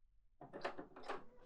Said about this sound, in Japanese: だから勝手にドア開けないでって